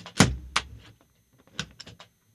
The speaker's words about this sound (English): Adjusting the arms on an office chair. In fact, the one I'm standing next to. It's right here, yep.